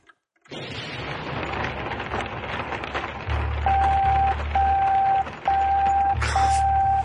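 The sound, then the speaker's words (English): Steady, dense hiss of rain falling, continuous throughout; partway in, a repeating electronic beep and a low droning buzz join over the downpour. “You made it rain”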